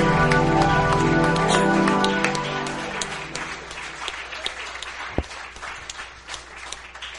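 A church audience breaks into loud, sustained applause and cheering for the Lord after a praise song, as sustained music fades out beneath it; the dense clapping carries on steadily, thinning slightly toward the end.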